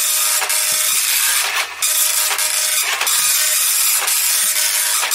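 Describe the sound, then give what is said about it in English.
A slow printer prints out quiz scores, running steadily with a constant mechanical whir and hiss, broken by periodic louder clunks and swishes every second or so as pages feed through. Fairly loud, with no talking. “Bear with us while we print out the scores, and this will determine whether or not you win a chicken.”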